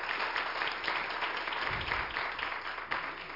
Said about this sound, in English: Amen. Praise God. Give God another hand clap of praise if you would. Hallelujah.